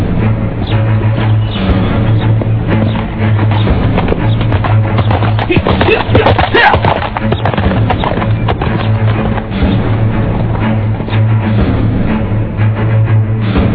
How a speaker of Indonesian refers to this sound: Dan sebentar kemudian, dia sudah berkuda menyeberangi alun-alun Istana Majapahit.